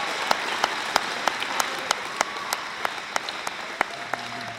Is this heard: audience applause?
yes